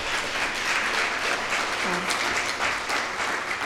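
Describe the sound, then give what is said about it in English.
A crowd at an evening event in Seattle claps steadily for several seconds for Seattle Mountain Rescue, a dense, continuous wash of applause that stays fairly loud and even throughout, with no one speaking. “A big clap.”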